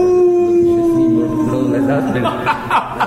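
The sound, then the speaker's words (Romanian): A person howls like a dog baying at the moon: one long, loud, sustained wail that slowly sags in pitch, then breaks into rougher, choppy vocal sounds near the end. “Eu urlu la lună!”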